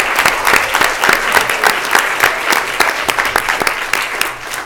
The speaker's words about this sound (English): All right, let's give them another round of applause.